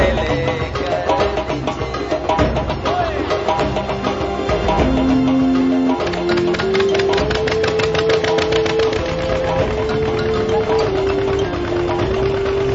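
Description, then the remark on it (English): A boat engine runs steadily on a boat travelling from island to island along waterways, a loud rattling drone whose pitch steps up and down now and then, with no voices over it. “traveling on boats from island to island, these men are bringing the light of Christ into the darkness of these hidden waterways.”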